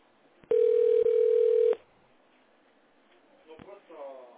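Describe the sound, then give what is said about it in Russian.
A loud, steady electronic telephone touch-tone beep on a call to the Smolny telephone exchange sounds for just over a second with a tiny break midway, followed by a pause and then a quieter voice starting to speak. “Переведите ваш телефон в тоновый режим.”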